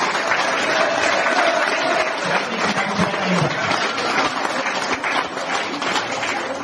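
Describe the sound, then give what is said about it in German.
A crowd applauds steadily in thanks, a dense wash of many hands clapping at once, sustained and fairly loud throughout with no pauses and no voices standing out. “Ein Applaus.”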